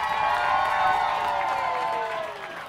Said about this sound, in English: And it was filled with glitter. And now everyone's cheering.